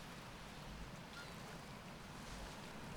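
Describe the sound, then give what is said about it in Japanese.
A steady, continuous wash of ocean waves with a low rumbling undertone, fairly loud and unbroken throughout, with no voices present. “波の音が耳に響いて、君の体温と汗を直接感じられて幸せ。”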